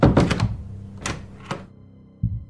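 door closing and locking

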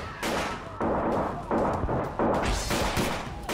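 gunfire

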